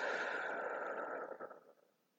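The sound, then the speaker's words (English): A slow, breathy exhale through the mouth, a soft steady rush of air that holds for about a second before tapering off into silence. No one speaks. “Hold it and breathe out through your mouth.”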